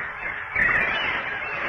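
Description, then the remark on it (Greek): A loud, dense chorus of honking geese or fowl calling overhead, their harsh calls overlapping continuously with a brief swell in the middle, with no one speaking. “Διώξτε αυτά τα πουλιά από πάνω μου!”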